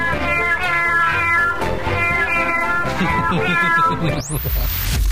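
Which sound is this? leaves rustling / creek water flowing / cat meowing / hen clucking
cat meowing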